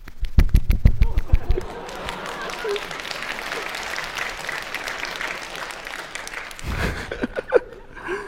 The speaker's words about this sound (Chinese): 表演单手鼓掌，他们说对麦不是很好。